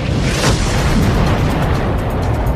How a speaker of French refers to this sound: Elle est 10 billions de billions de fois plus chaude que le centre du Soleil. C'est l'explosion de ce point, plusieurs millions de fois plus petit qu'une tête d'épingle, qui va engendrer l'univers.